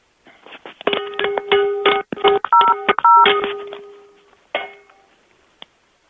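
A flurry of sharp metallic clanks as a phone is banged against a pan like cymbals, ringing with a bright tone and some beeping, then a pause and one or two final knocks.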